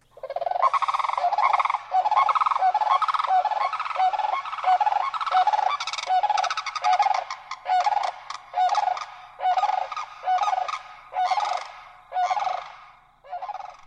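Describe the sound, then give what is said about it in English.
Sandhill cranes, a courting male and female leaping and bowing to each other, give loud, rattling croaking calls. The calls come first in a dense continuous chorus, then in rhythmic bursts roughly a second apart before fading out. “They bow to each other and then repeat the performance, all while uttering loud croaking calls.”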